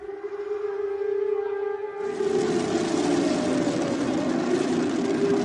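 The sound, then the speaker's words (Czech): A loud, steady civil defense air raid siren signals air danger for Belgrade, wailing on a sustained tone with harmonics, joined after about two seconds by a broad roaring rush of noise that thickens the sound. “Situacija je, kao što čujete, znak je da je vazdušna opasnost za Beograd.”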